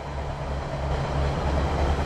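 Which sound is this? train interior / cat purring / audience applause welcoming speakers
train interior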